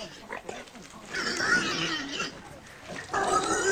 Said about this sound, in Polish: To były wilki? Nie no, to już jest dzik.